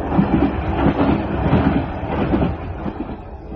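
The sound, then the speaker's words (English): A moving train rumbles and clatters steadily on the rails, a continuous, fairly loud rolling noise with faint rhythmic clacks and no voices. “Uncle Percy, did you say you could drive this train?”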